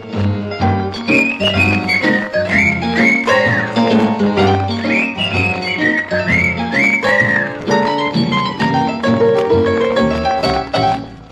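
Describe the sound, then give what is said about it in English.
A man whistles a bright, gliding melody over a full band accompaniment, the whistled tune sitting clearly on top of steady, loud music throughout. “The gal that makes a fella want to whistle Blue Ribbon Gal.”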